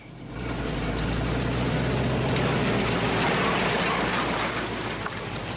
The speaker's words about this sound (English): I think I see a car coming. No, wait, it's a truck.